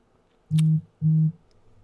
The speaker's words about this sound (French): Excuse-moi, j'ai un autre téléphone. OK, oui, bon, ben c'est ça. Hey, ça n'arrête pas matin les téléphones.